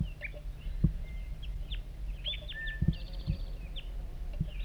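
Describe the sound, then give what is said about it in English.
A male wild bird up in an oak tree calls with scattered high chirps, a thin whistled note and a brief rapid trill, over a steady low rumble broken by a few dull thumps. “And there's a wild cross still here. Up in the oak. It's a male.”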